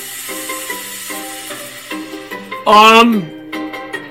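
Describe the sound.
A shaken drink can cracks open with a sudden, loud burst of fizzing spray lasting under half a second, rising sharply over a background of soft voices and tones before fading back.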